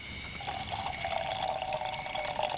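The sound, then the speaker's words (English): Water from a canteen pours steadily into a pot for a couple of seconds, for boiling bugs and crabs, a continuous splashing gurgle whose pitch rises slightly as the vessel fills, with no voices. “I'm going to boil the rest of the bugs and crabs together in water from my canteen.”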